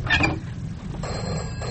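A telephone bell rings in a bright, rattling burst, then stops briefly and starts again, with a low steady hum running underneath throughout.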